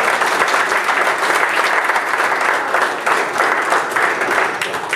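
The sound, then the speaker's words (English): Sustained applause from a large audience for two young men being honored, dense and steady clapping at a loud, even level throughout with no voices standing out. “Give them a hand of applause.”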